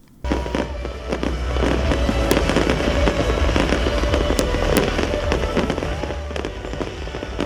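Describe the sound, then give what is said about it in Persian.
Fireworks welcoming the year 2008 burst continuously at New Year celebrations, a dense barrage of loud booms and sharp cracks overlapping with crackling sparkle and a low rumbling roar, with no pause throughout. “و مردم در سرتاسر جهان از سال 2008 میلادی با آتش‌بازی و دیگر مراسم استقبال کردند.”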